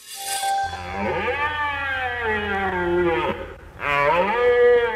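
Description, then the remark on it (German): A red deer stag bellows twice: a long, loud roar lasting about three seconds, then a shorter one. Both calls are deep, throaty and rich in harmonics, with no voices present. “Das war ein Hirsch und das ist ein Mensch.”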